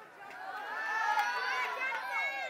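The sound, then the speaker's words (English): A crowd of many voices cheering and shouting together for a little boy who came up to help the speaker, a dense, steady wash of overlapping high-pitched calls that swells slightly in the middle and keeps going for a couple of seconds. “He brought his own cheering crowd.”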